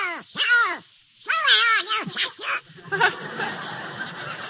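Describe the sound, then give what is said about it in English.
The raspy, nasal cartoon voice of Donald Duck squawks and quacks in a rapid series of wobbling, excited bursts, loud, trailing off into a garbled sputter. “What's that noise, Mickey? Oh, that's Donald Duck.”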